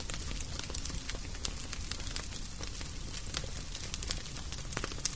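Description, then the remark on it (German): A large fire crackles steadily in a kitchen hearth, with frequent sharp pops and snaps over a low, continuous roar of flames, fairly loud throughout. “In der Küche brennt ein großes Feuer.”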